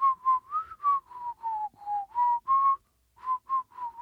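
A person whistles a simple tune alone while inhaling, a series of clear, short, rhythmic notes, with a brief pause before the melody resumes.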